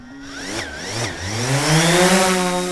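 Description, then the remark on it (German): A drone's buzzing motor whine, its pitch dipping and climbing several times before settling into a steady, slowly rising drone that grows gradually louder, with no talking. “Wir reden von einer Drohnenflicke, die so ziemlich viel schief läuft.”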